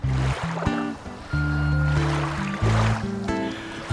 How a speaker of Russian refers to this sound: Вскоре до его слуха стал доноситься шум волн, набегающих на гранит, и дохнуло морским простором.